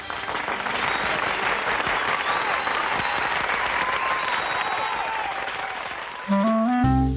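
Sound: audience applause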